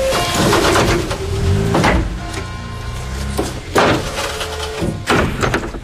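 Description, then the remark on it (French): Heavy metal doors on a delivery truck slam shut three times in a row after a pallet delivery, as the delivery driver leaves, each a loud thud with a brief metallic ring, over a steady low rumble. “Ça y est, on ferme les portes.”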